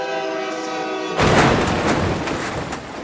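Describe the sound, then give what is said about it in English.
A loud, sustained train horn blares for about a second, then cuts into a heavy, roaring rush of noise as a train thunders past. No one speaks. “Apparently, sometime in November, soon after Fred called Betty Jo's daughter looking for his wife, he was killed in a car accident with a train.”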